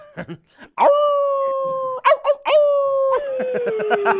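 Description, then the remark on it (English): A caller to the Hamilton Corner program imitates a dog, giving a few short yips followed by long, steady howls that waver and slide down in pitch, loud, with brief breathy sounds between them. “And I just want to tell you, I think I'm a dog.”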